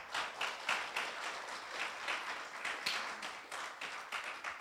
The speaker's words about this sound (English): Still the loudest applause was for the Baptist thing, but I appreciate y'all clapping after that one.